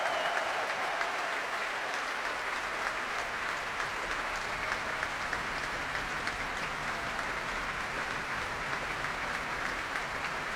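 Dense, sustained applause from a large crowd for music director Antonio Papano, with the chorus stamping their feet in appreciation mixed into the clapping. The steady roar holds at an even, loud level throughout, with no voices.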